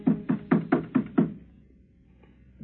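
Six quick, evenly spaced knocks on a door, close and fairly loud, followed by quiet room tone.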